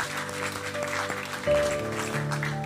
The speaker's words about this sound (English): Let's give a clap offering for those who raised their hands.